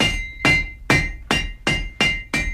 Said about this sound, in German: Dann nahmen sie sich Hammer und Nägel und hämmerten alles zusammen.